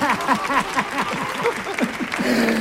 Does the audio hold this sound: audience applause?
yes